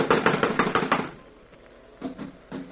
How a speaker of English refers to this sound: Well, someone is definitely in there. I'm going to knock. Now listen closely.